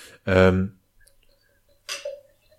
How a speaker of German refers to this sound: jetzt bevor ich die Frage stelle, schnappst du dir jetzt aber gerade ein Bierchen und machst das ganz theatralisch vor diesem Ding auf.